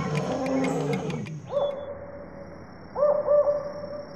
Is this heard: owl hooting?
yes